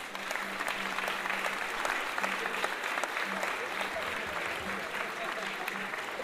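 A crowd applauds steadily for about six seconds, a dense wash of many hands clapping at an even loudness with no pauses, and a faint low hum underneath.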